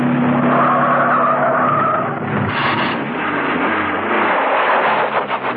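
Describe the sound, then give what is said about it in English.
Car tires skid and screech loudly as a vehicle stops at the exit ramp of a car park, reverses hard and tears down to the entrance, a sustained squeal over engine noise lasting several seconds with no voices. “At the ramp to the exit, she stopped, reversed, and tore down to the entrance.”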